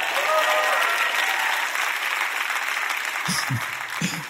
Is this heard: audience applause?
yes